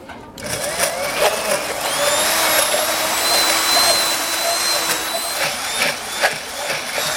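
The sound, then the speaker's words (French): A kitchen blender whirs steadily for about seven seconds, a loud buzzing motor drone with a high whine that shifts slightly in pitch as it blends a mayonnaise-like sauce made with olive oil, vinegar and salt. No one speaks. “On met l'huile d'olive à hauteur du produit et on prend un mixeur.”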